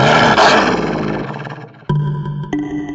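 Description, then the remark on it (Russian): A male wolf's furious growl, crouched in a dark cave ready to spring, rumbles loud, swelling at first and slowly fading, then two sharp snarling bursts cut in near the end. No one speaks. “В горле клокотал яростный рык.”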